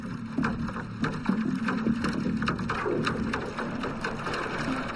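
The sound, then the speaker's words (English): The engine of a huge barge moving from O'Connell Bridge up the River Liffey, recorded underwater with a hydrophone, drones steadily: a thick low hum with a tonal throb, overlaid with scattered ticking and clanking of the grinding gears and engine, continuous throughout. “The first thing I hear is the engine of a huge barge, which is moving from O'Connell Bridge up the Liffey.”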